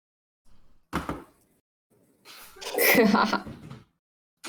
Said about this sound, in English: Hold up, I gotta close my door.